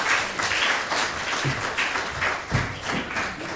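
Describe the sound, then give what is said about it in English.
An audience at a baptism service breaks into steady applause, a dense wash of many hands clapping at an even loudness, with a few heavier claps and thuds standing out from the crowd noise. “Okay, give him a round of applause.”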